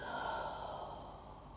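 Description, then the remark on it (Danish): A single long, deep exhalation during a guided breathing exercise, a soft breathy rush of air that slowly tapers off over about a second and a half, with no talking. “Og et dyb udånding ud.”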